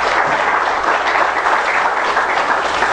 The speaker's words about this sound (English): Give the Lord a hand of applause in time.